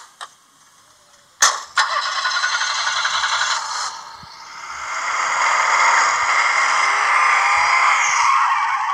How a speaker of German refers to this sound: Ein Auto mit kaputtem Auspuff. Davon fahren nicht viele durch die Gegend.